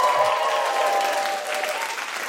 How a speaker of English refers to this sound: Such a weird thing to get a round of applause for that on a feminist podcast, but it is to another woman, so it's fine.